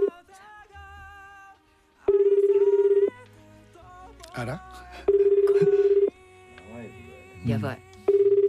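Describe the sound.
A surprise phone call placed during a Radio NIKKEI show to the representative of a grand-prize-winning band from Fukuoka. After a brief stretch of dialing tones, the line rings back with long steady tone bursts about two seconds apart, while a voice murmurs quietly between the rings.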